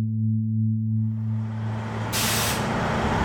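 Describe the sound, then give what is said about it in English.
A bus idles at a small bus station on Chicago's southwest side with a low, steady engine hum, then lets out a loud, sharp hiss of air brakes for about half a second, with no one talking. “There's a little station here on Chicago's southwest side where you can get on a bus with bright gold stripes.”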